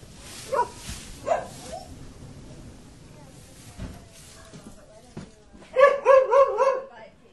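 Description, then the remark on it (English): Two dogs, Milo and Shiloh, bark at the family home of novelist Geraldine Brooks in Waterford, Virginia: a couple of isolated barks early on, then a quick burst of four or five sharp barks near the end, with quieter stretches of background noise in between. “The novelist, Geraldine Brooks, lives with her family and their 2 dogs, Milo and Shiloh, not far from Ball's Bluff, in Waterford, Virginia, a small town founded by Quakers in the early 1700s.”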